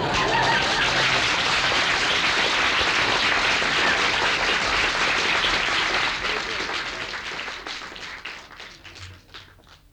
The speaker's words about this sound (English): It says here, wait for applause and then announce an intermission. It says here, wait for applause.